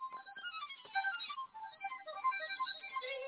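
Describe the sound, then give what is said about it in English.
A violin ringtone melody plays from a small phone speaker, thin and tinny, with sustained bowed-sounding notes moving steadily up and down for a few seconds, no voices over it. “That's a pretty awesome violin.”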